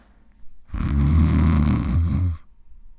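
A single heavy snore from a big man passed out asleep, a long, loud, rattling inhale with a deep rumbling drone that lasts nearly two seconds before cutting off. No voices are heard.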